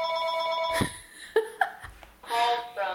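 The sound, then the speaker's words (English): A telephone rings with an electronic, tonal ringtone in two bursts separated by a short pause, fairly loud, with brief vocal sounds in the gap between rings. “And speak of the devil, I think that might be her now.”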